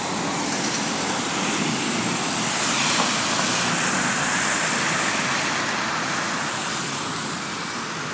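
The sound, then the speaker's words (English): A low-floor bus alongside, with snow chains on its back set of wheels, strains for traction in water almost up to the bottom of its floor. Its engine roars in a steady, loud rumble layered with constant hissing, grinding noise throughout, with no talking. “And even with the bus, it's a low floor bus, the bus is trying to get traction.”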